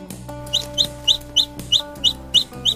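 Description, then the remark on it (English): A rooster clucks in quick, evenly spaced bursts, about nine short calls in a steady rhythm, heard clearly over a constant low tonal hum in the background. “Cock-a-doodle-doo. Cock-a-doodle-doo. I am a rooster.”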